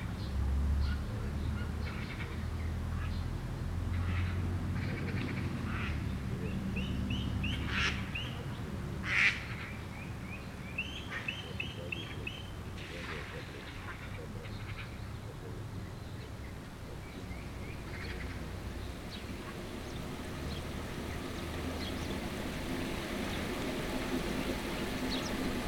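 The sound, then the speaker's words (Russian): Outdoor ambience at a pond next to a sanatorium under a steady low rumble, with gulls and crows calling in short repeated bursts, mostly clustered mid-way, flies buzzing, and a faint, indistinct murmur of fishermen in the background. “Рядом с санаторием пруд. Сейчас мы слышим бормотание рыбаков, крики чаек, карканье ворон и жужжание мух.”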